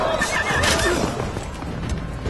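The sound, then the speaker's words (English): A horse whinnies loudly with a high, wavering cry that rises and falls over about a second, followed by a noisy rustling and scuffling background with no voices. “Poor horse.”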